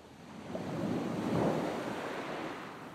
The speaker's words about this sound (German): Der weite Sandstrand liegt halb rechts vor mir. Links das Meer. Ich gehe im Wellenbereich barfuß den Strand entlang. Einmal mehr, einmal weniger spülen die Wellen an den Strand und kühlen meine Füße und Unterbeine.